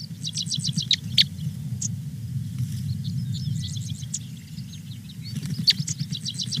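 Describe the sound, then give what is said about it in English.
Outdoor ambience of a tall grass prairie in Iowa: several birds sing repeated high, rapid trills and chirps over a steady low rumble of wind, with no voices. “This is what a tall grass prairie in Iowa sounds like.”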